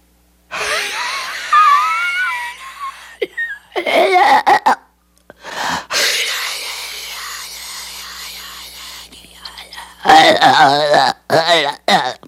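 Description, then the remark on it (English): A voice imitates the devil's breathing described in Blatty's book, done very close to the microphone: harsh, rasping, long strained wheezing inhales and exhales with gurgling, gagging texture, repeated several times in uneven bursts with short gaps, fairly loud and without words. “But Blatty says in the book it had an unearthly sound, the devil's breathing, that could be heard through the open door.”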